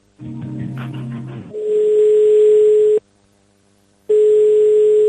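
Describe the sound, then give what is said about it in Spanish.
A telephone line tone sounds in long, steady, mid-pitched beeps separated by a silent pause, as an unanswered call to the Junta de Extremadura's citizen service line keeps ringing. A brief burst of low, buzzy tones comes first. No one speaks. “Pues llamabas y llamabas y llamabas y nadie lo cogía.”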